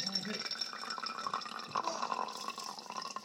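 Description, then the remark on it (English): Liquid pours slowly and steadily into a container, a trickling, splashing stream with rising gurgling tones as it fills, and a faint voice murmuring in the background. “And I mean you have to pour slow, or it does. Whoa! Yeah, I mean, it's not kidding. It does kind of make a mess.”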